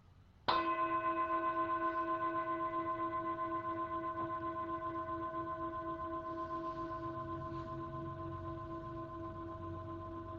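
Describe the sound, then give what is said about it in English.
A single meditation bell is struck once during a guided meditation session and rings out with a clear, layered tone that sustains and slowly fades, with a gentle pulsing shimmer over a quiet background. “And so I'm going to ring the sound of the bell, and I'm going to invite you just to allow the bell to draw you inward.”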